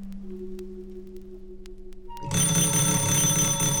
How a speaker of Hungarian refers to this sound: A mérges vekker óra fölcsengeti Kakas Marcit.